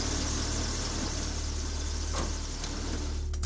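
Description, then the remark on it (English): A van engine idles steadily just after the van is parked across the street from a well-lit house, a continuous low rumble with a broad hiss on top, holding at an even level throughout with no voices. “Outside, Harry and Marv park the van across the street from Kevin's well-lit house.”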